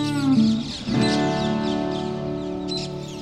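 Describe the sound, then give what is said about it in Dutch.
A dense, continuous wash of shrill chatter from a flock of parakeets gathered at a roost in Utrecht, with a steady low hum beneath and a few sharper high calls rising out of the noise. “de hele nacht dat gekwetter doorgaat, dat doen die parkieten doen dat niet”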